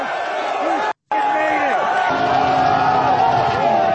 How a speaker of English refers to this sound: Look at how Sean Strickland is mobbed. They're all cheering for him.